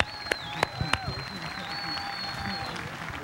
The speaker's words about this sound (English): Anyway, let's give these guys a round of applause, shall we?